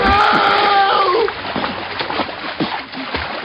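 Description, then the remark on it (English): A person jumps into thick, viscous water to rescue someone drowning: a loud splash followed by a few seconds of churning, splattering water sounds, with a brief high-pitched cry near the start. “Hij verdrinkt in de tijd. En dat is levensgevaarlijk. Ik spring...”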